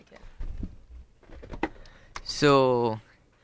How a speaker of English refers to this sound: Yeah, better type it. Yeah. And can you reach the keyboard?